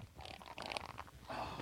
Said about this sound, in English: Quiet. He's going to fart.